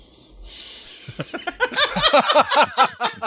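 Sylvester Stallone makes a long, congested nasal sniff that rasps through a blocked nose, followed by a rapid run of squeaky, whistling nasal sounds. Fairly loud, with no talking.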